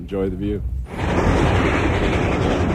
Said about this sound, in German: Und so dampft der Zug Richtung Grand Canyon.